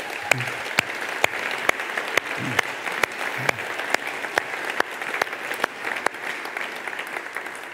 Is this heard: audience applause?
yes